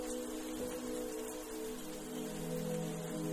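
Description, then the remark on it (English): Soft, steady spring rain patters continuously on a surface, a gentle wash of droplets with a faint low tonal hum underneath and no voices. “Settle into the couch on the veranda as you watch the rain gently fall.”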